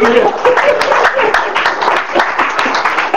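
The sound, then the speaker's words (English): An audience claps together in a loud, dense, steady burst of applause lasting a few seconds, given as a clap offering to Jesus, with voices calling out underneath the clapping. “Give Jesus the clap offering.”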